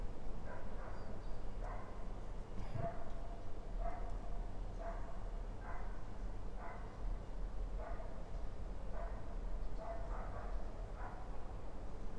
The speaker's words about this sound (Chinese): 試下出面，啲狗仔有啲亢奮啊！